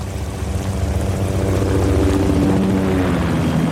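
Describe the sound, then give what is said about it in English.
A military aircraft, thought to be from the Air Force, drones overhead, a loud, steady engine roar with a low throbbing hum and faint tonal whine that swells slightly midway, with no one speaking. “I think that's the Air Force.”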